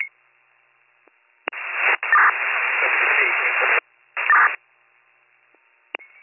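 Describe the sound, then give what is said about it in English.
Bursts of harsh radio static between dispatch transmissions crackle and hiss in loud stretches, separated by quiet gaps and sharp clicks of a transmitter keying on and off. “Flashing here, all static.”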